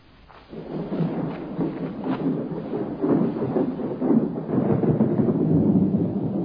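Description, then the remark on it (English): A thunderstorm with deep, rolling thunder that rumbles continuously and swells louder over several seconds, with the hiss of heavy rain underneath. No voices. “The shadow of a storm.”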